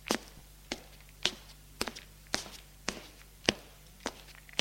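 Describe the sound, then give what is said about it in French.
Steady footsteps of someone walking, about nine crisp, evenly spaced steps at an unhurried pace, with a faint low hum running underneath and no talking. “Et marche. Marche.”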